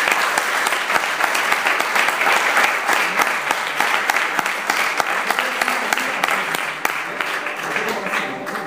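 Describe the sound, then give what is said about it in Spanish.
An audience at a flamenco performance claps steadily and warmly for a musician who has come to play a song with lyrics by Federico García Lorca; a dense, sustained patter of many hands from start to finish, easing off slightly toward the end. “aquí un aplauso para …, que ha venido precisamente para tocar este tema.”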